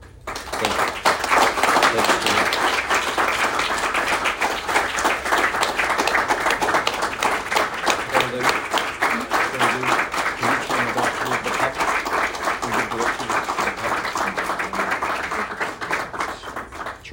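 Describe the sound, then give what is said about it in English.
An audience applauds a speaker at the end of a talk, steadily for about seventeen seconds, a dense, even wash of many hands clapping at a fairly loud, sustained level with no voices standing out. “I'm going to give you another round of applause.”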